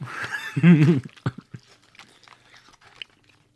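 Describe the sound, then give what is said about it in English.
Effortful chewing of a hard, tough snack, with a muffled vocal grunt at the start, then a series of irregular crunches and smacking bites that fade gradually quieter. “These things are so hard to chew”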